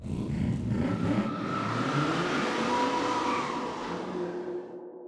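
Dozens of tiny race cars' engines whine and rev loudly as they speed off together from the ground, a steady buzzing roar that gradually fades slightly over several seconds, with no voices.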